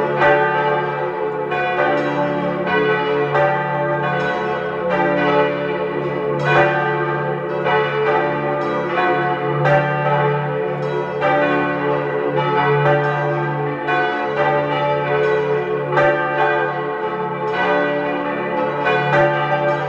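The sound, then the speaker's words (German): The bells of the parish church of St. Laurentius in Tristach, East Tyrol, about 3 km southeast of Lienz, ring together at 12 noon in a full, continuous peal, their overlapping strikes blending into a rich, sustained wash of metallic tones with steady loudness and no voices. “Sie hören die Glocken der Pfarrkirche zum heiligen Laurentius in Tristach in Osttirol.”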